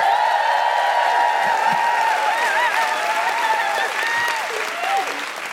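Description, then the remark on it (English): An audience cheers and whoops loudly as Carrie Ann Lloyd is welcomed to the stage, high sustained hoots and wavering yells riding over steady dense applause, with a few sharp claps and shouts poking through throughout. “Please welcome to the stage, with general hooing and defiant cheers, Carrie Ann Lloyd!”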